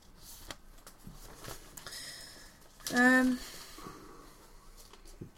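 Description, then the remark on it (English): Soft rustling and shuffling of paper sheets in irregular bursts, with a brief voiced hum or murmur cutting in midway. “So I've just got sheets and sheets of paper here.”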